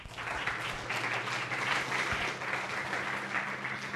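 An audience at a talk on software licenses and GPLv3 applauds steadily for about four seconds to welcome the speaker, a dense wash of many hands clapping at even loudness, with a faint low hum beneath and no voices over it.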